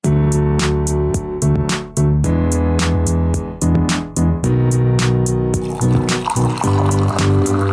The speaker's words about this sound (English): Ooh, somebody poured a tea, because it's giving casual.